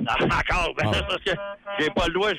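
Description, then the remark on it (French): A truck horn, sounded by a caller from inside his truck, gives a short, steady blare lasting about half a second, heard midway through excited talking that continues around it. “Le klaxon dans le camion, tout le monde est heureux.”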